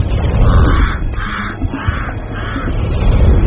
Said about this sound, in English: Pied crows.